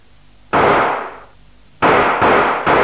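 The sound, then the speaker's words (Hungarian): Loud recorded gunshot effects played from tape as samples: a single sharp bang with a long fading tail, then after a pause three more shots in quick succession, each ringing out briefly. “Szalagról kéred a lövést, vagy élőből? Mutass egy párat.”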